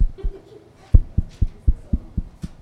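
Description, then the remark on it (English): A faint, muffled heartbeat thumps low and steady, a quick regular pulse that emerges after a brief murky stretch and continues to the end, with no voices. “Now, I'm barely getting heartbeat here.”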